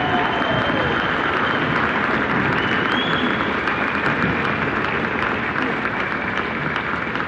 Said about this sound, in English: Okay, huge round of applause for this year's Team Vegas. Hope they get to make it 6 in a row.